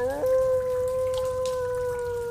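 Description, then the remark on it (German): A long, wolf-like howl echoing through the London sewers rises quickly and then holds one steady, mournful pitch throughout, sounding loud, with a faint watery background and no talking. “Das Heulen kam näher. Es klang wie von einem hungrigen Wolf, der auf seinem Beutezug durch die Kanäle streifte.”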